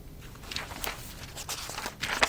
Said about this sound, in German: blättert in ihrem Aktenstapel zurück.